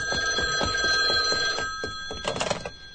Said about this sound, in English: Wait. I think I hear the telephone. Let it ring. Oh, I better answer it. It might be the office.